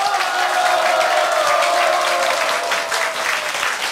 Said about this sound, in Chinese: 要不要给这个射击理论热烈的掌声鼓励一下？